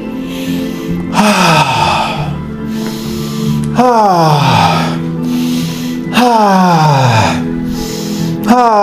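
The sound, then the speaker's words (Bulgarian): Deep, forceful breaths drawn and pushed out in a steady rhythm during guided breathwork, three big heaving cycles about two and a half seconds apart, loud over a low sustained background hum. “Давай, влезва в по-мощно дишане.”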